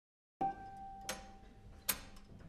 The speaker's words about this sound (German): Die Wanduhr schnurrte dazwischen lauter und lauter, aber sie konnte nicht schlagen.